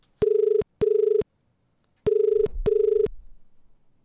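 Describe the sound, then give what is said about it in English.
An outgoing phone call's ringback tone rings twice in paired bursts, pauses, then rings two more times, steady and clear, with a faint low thump near the end. “Get her on the phone. Let's call your bubba.”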